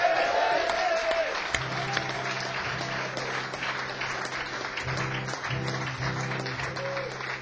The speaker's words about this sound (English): So I'm going to finish off with this, and have our round of applause here for this guy who's doing the sound all night. He's done such a great job.